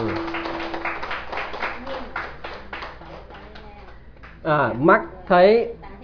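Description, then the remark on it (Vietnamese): An audience applauds in a dense, steady patter for several seconds, fading slightly, before a voice breaks in loudly with drawn-out, sweeping tones at the end. “Xin quý vị vỗ cho tràng pháo tay.”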